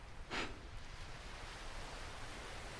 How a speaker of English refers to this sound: The waves lapping at the shore.